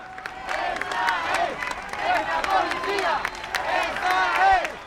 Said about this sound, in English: So a Spanish national police van is just coming down the road and you can hear the demonstrators are cheering them and clapping them.